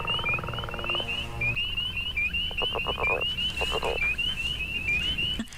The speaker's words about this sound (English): These are spring peepers and leopard frogs. Wow. Sweet. That's the leopard frog.